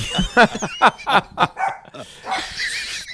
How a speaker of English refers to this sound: and you don't have your dog under control.